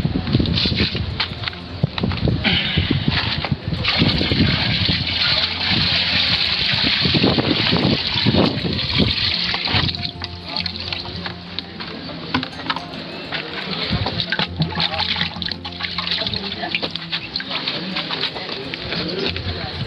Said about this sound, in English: This is the quality of the water. You can see the turbidity and the contamination that is there. We're going to pour the water into this biosat filter, and then you can watch what comes out of it.